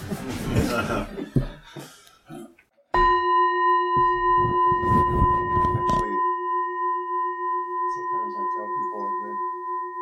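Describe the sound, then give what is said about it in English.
A meditation bell is struck once after a voice speaks to mark the end of a sitting meditation, its clear, steady tone ringing on with a slow pulsing shimmer while people talk softly over the lingering resonance. “But yeah, I'm going to ring a bell anyways.”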